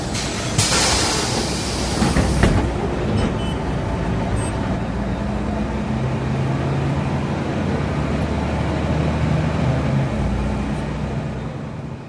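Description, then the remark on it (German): Steady low engine rumble of a moving bus in Gambia, travelling toward Niger, with constant road noise and rattling; a brief hiss-like burst early on, no voices heard. “Hallo Leute, willkommen in meinem Bus.”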